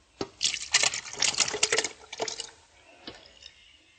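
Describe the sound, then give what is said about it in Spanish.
Thick coconut milk pours and splashes into a blender jar in a steady, gurgling stream for about two seconds, followed by a couple of light knocks against the container. No one speaks. “¿Me ayudas a echar este ingrediente, la leche de coco, en la licuadora?”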